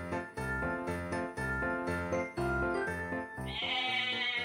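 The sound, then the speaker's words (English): Frightened goats that have just come out of an elevator into an apartment building hallway bleat loudly and repeatedly in quick succession, their wavering cries overlapping, with a brighter, higher-pitched tone rising near the end. No one speaks. “Now listen, goats. You're out of the elevator.”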